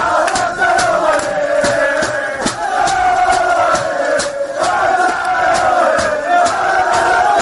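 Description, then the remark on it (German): Roma players loudly cheering and chanting together in their dressing room after beating Barcelona 3:0, voices rising and falling in a steady chant, punctuated by sharp claps or thumps throughout. “Und dort ging bei der Roma dann richtig die Post ab.”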